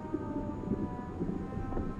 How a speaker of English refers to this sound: No, listen! Oh, that! It sounds like whale song. Like jazzy whale song.